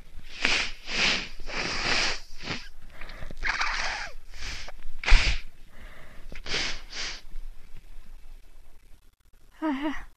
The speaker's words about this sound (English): I just finished vacuuming, and that always kicks up a lot of dust into the air, so my nose is itching pretty bad and running a lot. I feel like I'm gonna sneeze real soon. Excuse me, I need to blow my nose a sec.